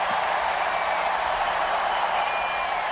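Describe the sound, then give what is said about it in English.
An audience applauds steadily at the end of a speech, a dense wash of many hands clapping at once, holding an even loudness from start to finish with no voices standing out. “That was a passage where you can hear that the audience is quite thrilled.”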